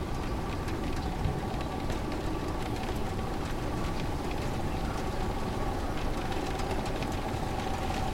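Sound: heavy rain falling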